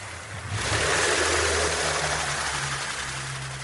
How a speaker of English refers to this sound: somebody way in the distance started a little outboard motor on a little skiff and went driving away and completely drowned out all the recording I was trying to make.